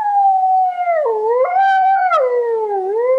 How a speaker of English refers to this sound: But the conservation group Io non ho paura del lupo, or I'm not scared of the wolf, who provided this recording of wolf howls